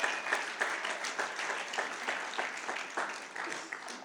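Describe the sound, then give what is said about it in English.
A church audience gives a hand clap of praise as they are seated, many hands forming a dense, bright patter with regular louder pulses about every third of a second, sustained throughout without speech. “Let's give him a hand clap of praise as we're seated.”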